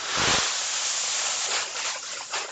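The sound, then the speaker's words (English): Seeds pour in a steady, dense rush into a Pro Box at a seed dealer's business, Albert Lee Seed House, in Minnesota, a loud hissing patter that swells and dips slightly over a few seconds, with no voices. “Somebody working, pouring seeds into a Pro Box.”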